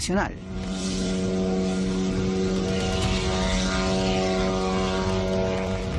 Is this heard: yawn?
no